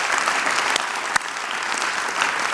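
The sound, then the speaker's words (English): A church audience applauds steadily as a hand clap of praise to God, a dense wash of many hands clapping at an even loudness for a few seconds, with a couple of sharper claps standing out from the rest. “Come on, let's give God one more hand clap of praise.”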